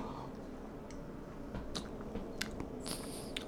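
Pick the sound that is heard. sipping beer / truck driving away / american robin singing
sipping beer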